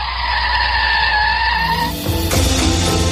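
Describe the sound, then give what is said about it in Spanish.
A car brakes hard at a traffic light to avoid being photographed by a traffic camera, with a loud, sustained tyre squeal that shifts into a rougher skid and engine rumble as the vehicle comes to a stop, prominent with no talking. “Frenazo en seco para intentar evitar que la cámara que hay colocada justo detrás de un semáforo te haga la foto.”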